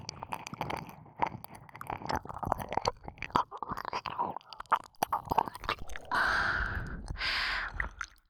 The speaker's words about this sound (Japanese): 私の吐息、耳にかかるの気持ちいいんでしょ。もっと吹きかけて、頭の中、トロトロにしてあげる。